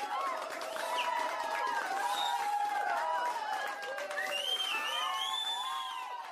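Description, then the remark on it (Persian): Spectators at a soccer match cheer and clap steadily for a goalkeeper's saves, many voices shouting and whooping over a dense wash of applause that stays loud for the whole stretch. “تماشاچیام تشویقش کردن.”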